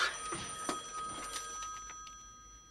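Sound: telephone ringing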